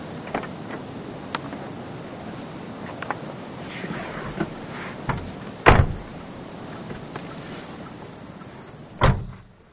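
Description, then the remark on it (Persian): A car door thuds shut, followed a few seconds later by a second solid door slam, with faint shuffling and outdoor ambience in between and no talking, as someone gets into a car. “بابا تو که گفتی جلوی بچه های دانشکده سوار ماشین نمیشی، این عدالت پارا چیه در میاری؟ سوار شو دیگه”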